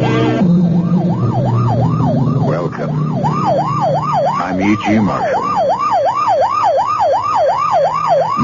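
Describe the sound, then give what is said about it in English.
A loud siren from a police car or ambulance wails in rapid, repeating up-and-down sweeps for the whole stretch, with low traffic rumble underneath and no talking. “You know it's a police car or ambulance on the way to or from an emergency in which someone is badly hurt.”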